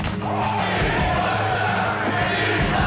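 two claps

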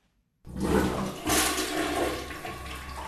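toilet flushing

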